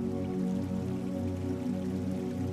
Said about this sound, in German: Das Plätschern der Isar rückt nun in den Hintergrund. Es ist wie ein stiller, unsichtbarer Begleiter, der dir Kraft auf deinem Weg gibt und dich ermutigt, durchzuhalten.